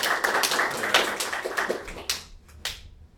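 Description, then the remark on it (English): A short burst of audience applause at a Linux Users Victoria event, thanking the three main organisers of the previous year's event: many overlapping hand claps that build into a dense patter, then thin out to a few scattered claps as it dies away. “They were the main three organisers for the event last year, so I don't think any of them are here, unfortunately, but I guess we can just give them a little round of applause for that.”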